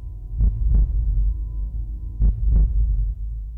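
A deep, low rumbling throb pulses in paired beats, like a slow heartbeat, two double thumps about two seconds apart over a steady low hum, with no voices.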